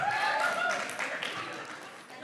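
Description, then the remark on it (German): The Spanish-speaking part of an audience applauds after a phrase is said in Spanish, a dense, steady wash of many hands clapping for a couple of seconds, with a few voices calling out underneath before it slowly thins. “Ich wusste, ich krieg da einen Applaus.”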